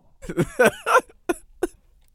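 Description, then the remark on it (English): A loud, croaky burp, after eating a burrito, rolls out in several voiced surges over about a second, followed by two short, abrupt belching bursts, with no talking. “Excuse me, everyone. I just ate a burrito.”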